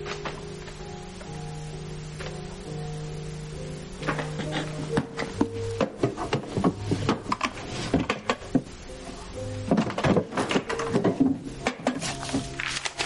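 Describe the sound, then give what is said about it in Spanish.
Someone rummages through the desk drawers in a school director's office, opening papers and documents, with a busy run of wooden thunks, slides and rattling knocks as drawers open and shut, over a faint steady musical hum. “rebusca en los cajones del escritorio.”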